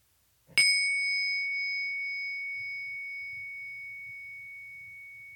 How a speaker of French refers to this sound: La méditation commence dès la première cloche et vous ne rouvrirez les yeux qu'à la toute fin de la seconde cloche.